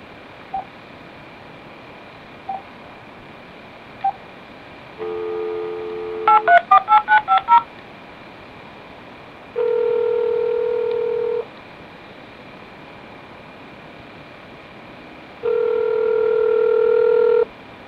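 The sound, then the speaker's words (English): A quick burst of about seven telephone keypad dialing beeps as an office number is dialed, then two long, steady ringing tones spaced apart. A few faint clicks come first, and nobody speaks. “I'll try the office number again.”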